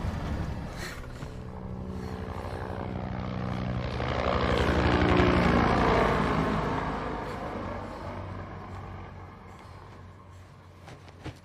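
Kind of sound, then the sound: vehicle, helicopter approaching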